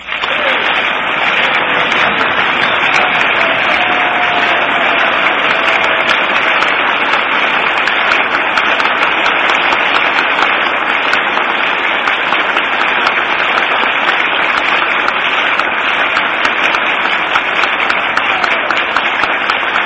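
Loud, sustained applause from a large audience in Fort Worth, Texas, acknowledging the president's remarks, with flashbulbs popping; a dense, steady wash of clapping that holds at the same level for the whole stretch with a slightly thin, muffled quality.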